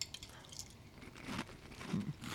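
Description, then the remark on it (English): Crisp crunching of someone chewing a mouthful of dry breakfast cereal, with irregular bites and crackles over a couple of seconds and no talking. “Wow, it's crunchy.”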